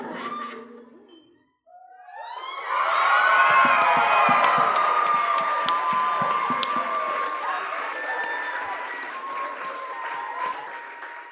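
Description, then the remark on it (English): A crowd breaks into loud applause and cheering during a marriage proposal, after a brief quieter moment, with whoops and high shouts rising over steady clapping that holds on for several seconds. “Pause for applause.”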